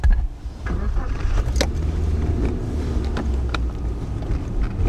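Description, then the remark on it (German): A car drives along a forest track into the primeval forest at Białowieża, Poland, with a steady low engine rumble, wind noise and occasional bumps and rattles, heard from inside the car; no one speaks. “Er steigt in sein Auto und folgt einem Forstweg hinein in den Urwald.”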